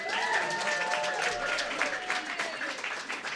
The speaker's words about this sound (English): So applaud your president